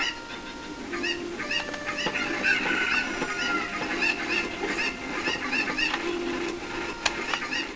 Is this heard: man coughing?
no